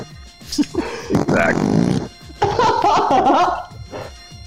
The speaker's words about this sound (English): hit that fart soundboard one more time so I can hear what I've been doing all day.